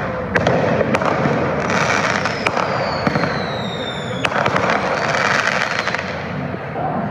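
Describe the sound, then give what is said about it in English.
Fireworks, mostly mortars, set off at random in and around a crowd in front of the Justice Center at about 9:30 p.m., burst repeatedly at irregular intervals, sharp cracks and booms with a whistling rise among them, over a dense, continuous rumble of crowd noise. “People were setting off fireworks, mostly mortars, at random in and around the crowd.”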